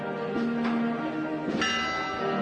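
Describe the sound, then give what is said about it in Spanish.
A church bell of the Capuchin convent rings loudly from its modern bell gable on Calle Sevilla on a Holy Tuesday afternoon as a brotherhood procession forms at the door; its long metallic hum sustains between strikes, with one fresh bright clang landing partway through. No one speaks. “Como siempre suena la campana,”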